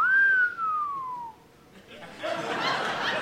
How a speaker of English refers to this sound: Someone just did a sexy lady whistle. Like a sexy lady was going to walk in.